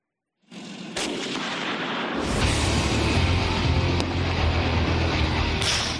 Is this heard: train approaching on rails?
no